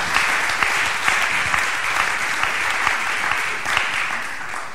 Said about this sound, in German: Großen Applaus bitte.